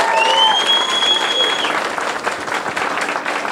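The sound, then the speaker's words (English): A crowd applauds Cassandra Peterson loudly and steadily for several seconds, the dense clapping joined by a sharp whistle and faint cheers at the start. “Big round of applause.”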